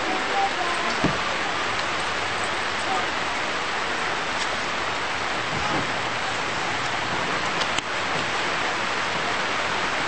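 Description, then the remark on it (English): Steady rain hisses down at a constant level, a dense wash of noise with a few sharper drips and taps standing out now and then. No one speaks. “See, the Lord's raining on us. Isn't that great?”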